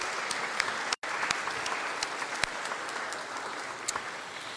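audience applauding

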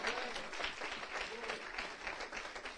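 audience applauding

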